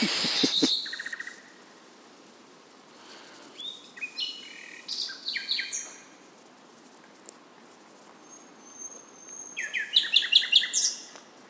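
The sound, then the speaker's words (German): A lone bird chirps and trills in bursts at night in Berlin, its bright, varied phrases ringing out clearly over a quiet, low city hum, with short pauses between songs. “Ich kann nicht glauben, dass ich hier mit einem Aufnahmegerät im nächtlichen Berlin stehe und das Zwitschern eines Vogels aufnehme.”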